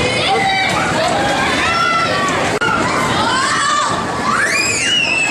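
A crowd of people shrieks and yells together on an amusement ride, loud overlapping screams with swooping rising and falling pitches that continue without a break for several seconds.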